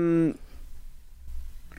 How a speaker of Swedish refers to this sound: Det är curling, var det där. Ja, därför att ljudet är för jämnt. Det är samma.